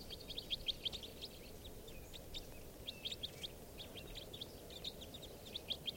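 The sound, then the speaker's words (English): A flock of type 4 call-type birds gives many short, high chirping calls in scattered bursts over a steady low rumble of background noise, with no talking. “I hear some type 4s now.”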